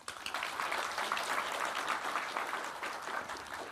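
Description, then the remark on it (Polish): Sustained audience applause at a youth olympiad on social insurance, a dense crackle of many hands clapping at steady loudness throughout, with no talking over it. “Cieszymy się również z obecności wszystkich kibiców olimpiady. Brawa!”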